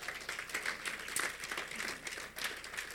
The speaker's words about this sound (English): Amen. Clap for the Lord Jesus.